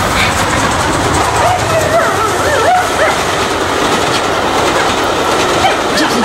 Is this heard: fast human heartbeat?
no